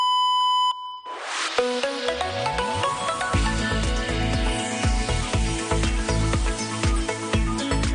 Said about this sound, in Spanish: Hem de posar el rellotge en hora. Vull dir, bàsicament, les senyals horàries ens han anat a un altre lloc. No són dos quarts, eh?